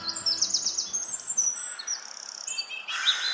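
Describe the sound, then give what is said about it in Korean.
Small birds, cactus wrens, chirp and tweet among the branches of saguaro cactus in the Arizona desert, in quick, overlapping bursts of high, bright notes, steady throughout, with a louder cluster of calls near the end and no voices. “자세히 보니 선인장 가지 사이사이로 작은 새가 눈에 띈다.”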